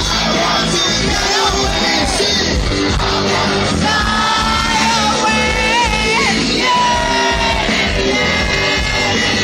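A large concert crowd roars continuously, with many voices yelling and high, sliding whoops rising above the dense, loud wall of cheering throughout.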